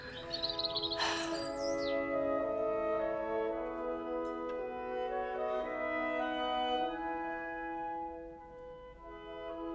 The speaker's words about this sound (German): Können Sie bitte mal das Fenster aufmachen? Ah, ein herrlicher Tag heute. Wenn ich diese Vögel höre, diese wunderschöne Natur draußen.